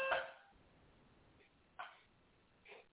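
A brief electronic alarm tone sounds at the start, followed by two short, fainter bursts spaced apart, with no talking; it is a false alarm, the alarm being tested.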